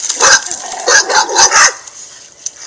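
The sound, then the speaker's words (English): Three dogs in a house bark in a rapid, overlapping burst for about a second and a half, loud, then the noise drops away to near quiet. “Okay, so you can see that this is definite social facilitation. All three dogs are really great dogs.”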